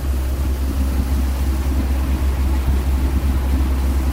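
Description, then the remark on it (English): A ferry engine easing down as the ferry crosses the Vltava river in Prague, Czech Republic, approaching Podbabie; a deep, continuous low rumble with a broad hiss of water and machinery above it, holding fairly even in loudness throughout, with no voices. “The engine comes down.”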